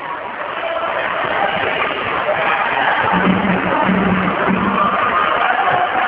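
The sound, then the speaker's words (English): A large stadium crowd in Copenhagen roars and cheers on its feet at match point, in a steady, loud wash of noise for several seconds, with a low droning horn-like tone rising briefly out of it midway. “The crowd here in Copenhagen were on their feet.”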